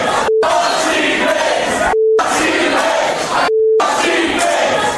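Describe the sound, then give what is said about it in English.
A loud, dense audience filling a room roars and boos continuously at a performer on stage, its massed voices swelling into rhythmic chanting, interrupted three times by short gaps of silence with a brief steady beep tone. “the entire room starts booing me. And then they start chanting.”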